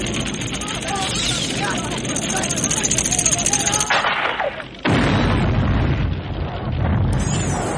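Loud, heavy explosions from trick arrowheads in a movie scene roar almost continuously, a dense rumbling barrage of booms and blasts. It briefly thins out midway, then the thunderous detonations surge back at full force.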